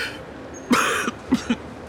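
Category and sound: human body sound, coughing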